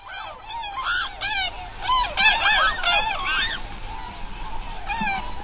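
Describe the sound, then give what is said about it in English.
A flock of tundra swans calling together, a continuous chorus of overlapping high, mellow whooping honks that rise and fall, with no talking. “Swans, like the tundra swans calling in the background, have long exalted the human heart.”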